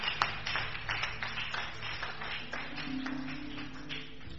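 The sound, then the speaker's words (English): A church audience clapping their hands together in a steady, dense patter of many overlapping claps, with a low sustained hum running underneath. “Clap your two hands if you believe it.”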